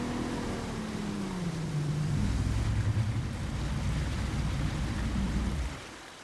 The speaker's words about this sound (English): Last week, I went for a boat ride with Mayor Dean and Water Services Director Scott Potter. We set out from a city dock on the Cumberland River, which runs right through the heart of Nashville.